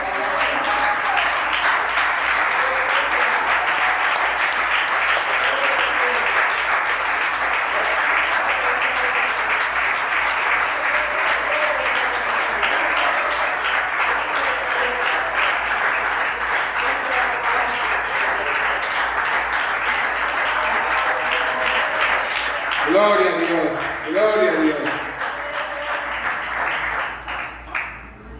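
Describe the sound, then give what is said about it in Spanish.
Sustained, dense applause from an audience fills the whole stretch at a steady loud level, with a voice briefly rising over the clapping near the end as it starts to taper. “Oye, yo le pido un aplauso para eso.”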